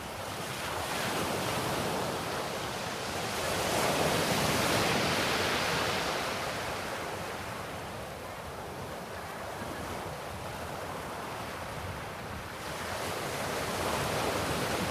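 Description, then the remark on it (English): Continuous surf washing onto a beach, a broad steady roar that swells and eases in slow surges, with some wind noise mixed in and no voices. “When you're ready, prepare to leave the chair at the water's edge, knowing that you'll be filled with the sea's nourishing energy, even when you leave the beach behind.”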